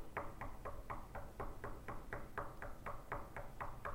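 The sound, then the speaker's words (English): A rapid, evenly spaced series of about fifteen knocks on a hard surface, made by a speaker during a service, fairly quiet, over a steady low background rumble with no talking. “See, right now, I can do that in this room and everybody in here knows it. Everybody knows He's up there knocking.”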